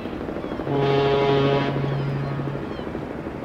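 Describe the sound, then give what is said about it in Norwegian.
A ship's foghorn sounds one long, deep, steady blast that rings out loud over a windy harbour background at the quay in Sandefjord, Norway, in the early 1990s, then fades, leaving the breezy open-air rumble of the quay. “Ved kajen I Sandefjord, på begynnelsen av 90-tallet.”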